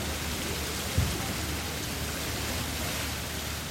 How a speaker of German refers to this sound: Da ist der Brunnen, guck mal da drüben. Man hört ihn schon. Und der hat was von so einer Konditorware ein bisschen.